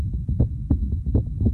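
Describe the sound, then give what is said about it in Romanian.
A steady heartbeat thumps in low, muffled pulses, repeating in a regular rhythm with no talking, fairly loud against a faint constant hum, in a public service message on Europa FM. “Acum auzi bătaia unei vieți.”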